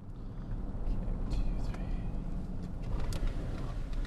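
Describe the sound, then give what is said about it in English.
A game warden's pickup truck, its lights dimmed, rumbles low and steady as it rolls slowly to a stop at an area where thousands of migrating birds, including American widgeon ducks, are landing for the evening, with faint scattered higher sounds drifting over the constant drone. “dims the lights on his truck as he pulls up to an area where thousands of migrating birds are landing for the evening.”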